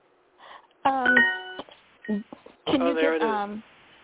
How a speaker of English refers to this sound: There's the bell.